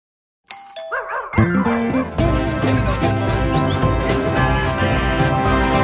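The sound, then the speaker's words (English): A doorbell chimes its ding-dong tones near the start, clear, then a loud, dense wash of music-like sound swells in and carries on to the end. “Doorbell rings, he drops a bag outside.”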